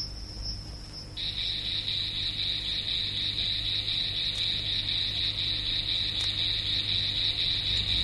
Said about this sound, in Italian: tra l'altro comunicano attraverso delle variazioni temporali, spesso eseguiti su un monotono, come il caso per esempio dei grilli, che addirittura riescono a comunicare attraverso delle variazioni monotonali su una unica nota che raggiunge i 4900 Hz.